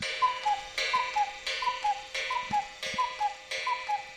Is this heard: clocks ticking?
yes